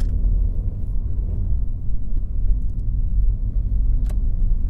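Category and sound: vehicle, car driving in traffic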